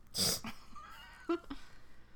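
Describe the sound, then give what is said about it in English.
A cat lets out a sharp, loud yowl followed by a drawn-out, wavering meow and a couple of short chirps, with no one talking. “Cole, stop. Go away. The... Get out of here, cat.”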